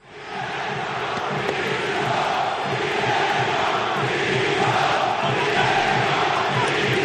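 A large crowd of Sevilla football fans roars and shouts in protest at the end of a match in Sevilla, a dense, steady wall of angry voices with whistling mixed in, shouting at the club's board and calling for its resignation, rising quickly and holding loud for the whole stretch.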